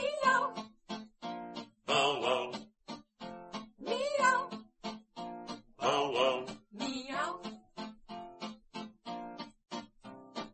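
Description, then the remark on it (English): Several drawn-out, wavering meows rise over a steady, rhythmic musical backing, coming in clustered bursts with short pauses between them, prominent. “Old Commodore Gray had a dog and a cat, with a big bow wow and a little meow.”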